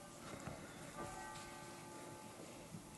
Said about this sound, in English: The bell's ringing down in the monastery for Lauds. It's a dark, gray morning.